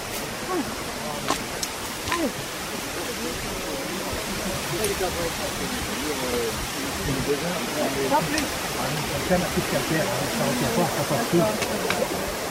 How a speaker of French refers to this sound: Et la cascade.